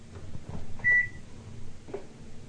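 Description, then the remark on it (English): A washing machine gives a single short, steady, high-pitched electronic beep, clearly audible over a low background rumble with a few soft knocks; no one speaks. “That's my washing machine, it sings.”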